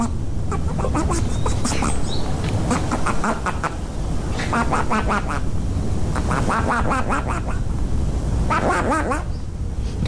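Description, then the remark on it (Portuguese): A string of loud, raspy duck-like quacks made by flatulence from a man lying on his back on the ground with his rear raised in the air, in a garden, coming in irregular clustered bursts over a steady noisy outdoor background, prominent throughout. “deitado no chão de costas, rabo alçado no ar, imita um pato com o rabo.”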